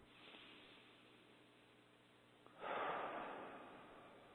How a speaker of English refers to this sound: A few, one or two yawns there? Just a few.